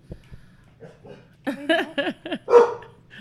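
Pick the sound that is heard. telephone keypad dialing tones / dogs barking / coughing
dogs barking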